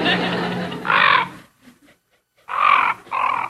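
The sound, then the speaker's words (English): A mob of ravens circling overhead above a hunter-killed moose carcass just outside Glacier Bay in Gustavus, Alaska, give harsh, raspy calls: a grating burst, a short quiet pause, then two more loud croaks in quick succession, fairly loud. “These ravens, it was a mob of them, and they were circling around over my head.”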